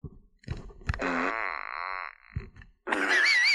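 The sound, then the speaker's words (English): A cartoonish rainbow fart emoji sound effect: a few short low pops, then a long buzzy, wavering toot, followed by a bright, shimmering sparkle with gliding whistle-like tones. No one speaks. “It's a rainbow fart.”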